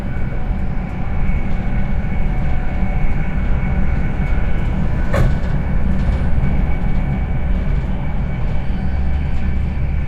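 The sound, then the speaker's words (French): Steady, heavy rumble of a passenger train bound for London in motion, heard from inside the carriage, with a continuous low drone and faint rattling, plus one brief sharp click midway through. “bienvenue à bord de cette heure destination de H-Ford International et Londres, Saint-Pancrasso. Notre train prévu d'arriver à H-Ford International à 11h07”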